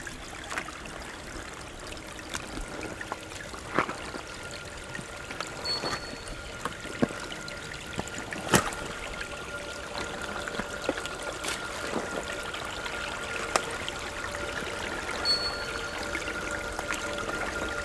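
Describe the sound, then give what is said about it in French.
Gentle stream water trickles and laps steadily, with soft splashes and small clicks scattered through a continuous flow, and no voices. “Et le clapotis si agréable.”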